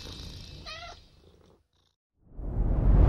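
A cat purring with a steady rumbling drone, a short meow-like chirp early on, a brief pause of near silence, then the purring returns louder and fuller.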